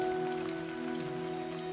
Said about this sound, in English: The rain.